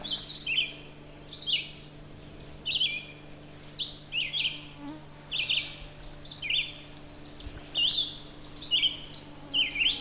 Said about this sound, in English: Difficult, because you're trying to pick that song out over this rather continuous singing red-eyed vireo. The redstart is a warbler. I can actually see them. Beautiful. Black and orange and white on the belly. There he goes again.